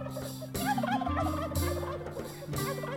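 turkeys gobbling

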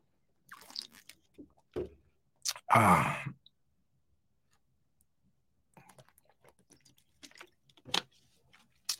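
drinking water

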